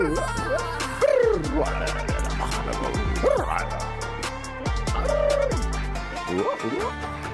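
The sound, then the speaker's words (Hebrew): A Dalmatian dog gives several short, pitched barks and yelps at irregular intervals, fairly loud, over a steady musical backing. “יש לה כלב דלמטי.”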